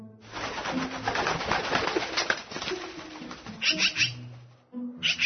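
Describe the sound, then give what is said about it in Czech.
A magpie arrives and flies off: a busy rustle of flapping wings and scratchy chatter, then a few sharp, harsh calls near the end before it goes quiet. “vidi, došla nam je svraka. Sad je otišla.”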